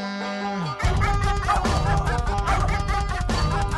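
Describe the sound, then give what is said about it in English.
Trooper, the dog of Hank III, barks and yips repeatedly and loudly over a dense, continuous wash of sound that starts abruptly after a brief sustained tone. “Yes, that's Trooper, the dog of Hank III.”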